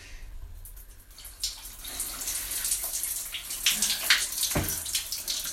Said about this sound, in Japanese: じゃあいつも通りいつも通り私の大好きなシャワーを使ったオナニーをしていきたいと思います。